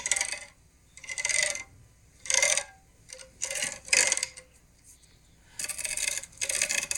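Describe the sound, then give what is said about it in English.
A metal ring is dragged across tennis racket strings in a series of bright, rasping strokes, about seven passes with short pauses between, fairly loud, with no talking. “No, it's me taking my ring over my tennis racket.”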